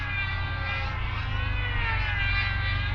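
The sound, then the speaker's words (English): A jet aircraft roars steadily overhead, a loud, continuous engine drone with a deep rumble and a high whining tone, with no voices. “I've been too busy keeping my head up in the clouds and watching these jets”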